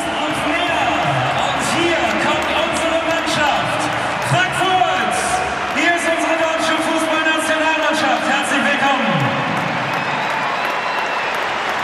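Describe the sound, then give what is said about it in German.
A basketball bounces in quick, irregular dribbles on a hard court as a player dribbles toward the listener during a relaxed warm-up before a home game, partly buried under a loud, steady arena crowd with applause and voices over a sound system. “dribbelt auf uns zu.”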